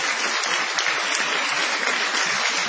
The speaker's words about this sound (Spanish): Vamos a extender la ovación para honrar a Patricio Barton.